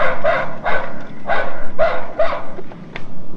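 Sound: dog barking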